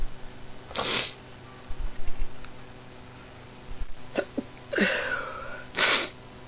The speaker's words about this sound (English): I just conveniently sat down at my computer for a late night email check and just started sneezing.